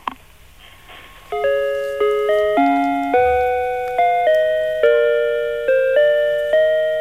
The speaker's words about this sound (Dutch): Nou, die mag wel een nieuw batterijtje in. Nou, als het gesprek net zo futloos gaat worden als dit muziekdoosje.